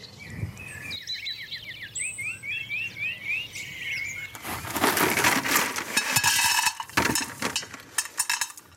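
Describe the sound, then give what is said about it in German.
Birds sing a lively chorus of quick, high chirps and repeated trilling phrases, then loud crunching, scraping noises of a drainage layer being put into a mobile planter take over in the second half, with the birdsong continuing faintly underneath. “Ich weiß nicht, ob man es so gut hört, aber akustisches Highlight sind hier auf jeden Fall die Vögel, die ein richtiges Konzert für uns trällern.”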